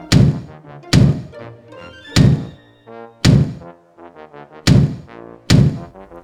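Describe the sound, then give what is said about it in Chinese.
Heavy, booming thumps of a kangaroo family hopping on the second floor, heard from downstairs: six loud thuds spaced about a second apart, each ringing briefly with a low, resonant tail. No one speaks. “二楼来了袋鼠一家，楼下听得天摇地动，猫头鹰黑眼圈更深了。”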